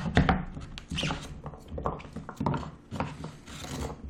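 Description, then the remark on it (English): A knife chops squash into pieces for a pie, knocking against a wooden cutting board in a series of uneven thunks, with scraping and rubbing sounds between the strikes. “So I'm just chopping up the squash right now.”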